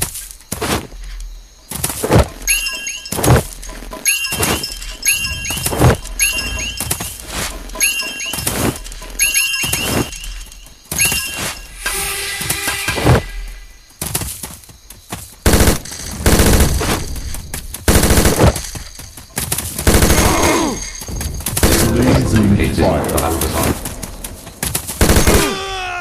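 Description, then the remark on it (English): Rapid bursts of video game gunfire crackle alongside booming explosions, loud and dense, with sharp repeated shots in a steady rhythm and heavier blasts building toward the end, no voices present. “What are enemy those explosions over there? Destroy at all costs.”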